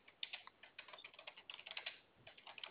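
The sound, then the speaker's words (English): Rapid, irregular clicking of keys on a computer keyboard as someone types an address into a computer system, a steady flurry of light taps with brief pauses, heard alone without any talking. “I'm typing it in right now as we speak.”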